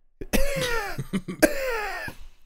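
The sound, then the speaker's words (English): A loud fit of harsh coughing: several raspy, hacking bursts in quick irregular succession, with strained throaty rasps between them and no talking. “I'm getting my ass eaten then? Because I'm the one coughing.”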